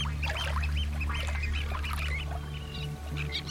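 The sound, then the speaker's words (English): A little tern, holding a small sand eel it has just caught in its beak, squeaks in quick, high, repeated chirps, the sharp calls coming in bursts over a steady low rumble in the background. “Had a little tern go right in beside me and pull out a little sand eel, and it's still managing to squeak with its food in its beak.”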